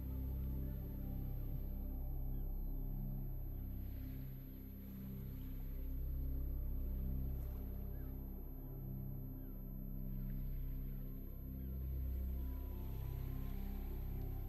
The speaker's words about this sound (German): Lausche den sanften Wellen und genieße die Temperatur auf deiner Haut, die genau richtig sein kann.